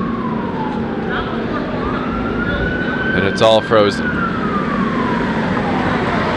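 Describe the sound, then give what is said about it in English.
Emergency sirens wail through steady city traffic noise on Queen Street on New Year's night, their tones sweeping slowly, with a short, loud burst of rapid yelping partway through. A person speaks briefly over the street din. “Man, a lot of sirens tonight on Queen Street.”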